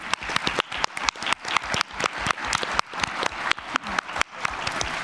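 An audience applauds steadily for about five seconds, a dense wash of many hands clapping with sharp, crisp individual claps standing out at a fairly even loudness throughout.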